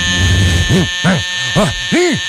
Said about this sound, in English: Here comes the alarm.